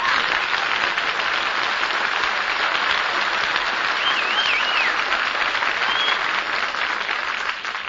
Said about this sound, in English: All that applause for me. Oh, I feel so wanted.